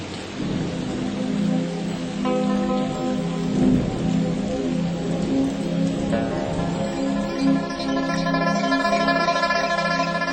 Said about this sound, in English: the next day a miraculously long and cooling rain arrived for the first time in 9 months.